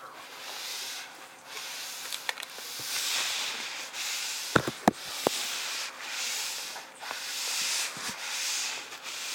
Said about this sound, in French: La mer calme.